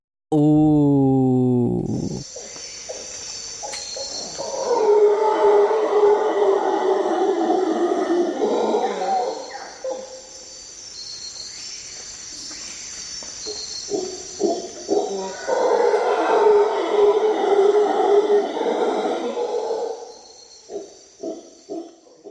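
Howler monkey calls: two long, loud, droning roaring bouts, each lasting several seconds with a short lull between, over a steady high-pitched background hum. No one speaks.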